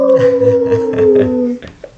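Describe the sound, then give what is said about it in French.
A person imitates a werewolf howl: one sustained, slightly falling 'aouh' lasting about a second and a half, loud, followed by brief quiet rustling. “Et les loups-garous, ils font quoi comme bruit ? Aouh.”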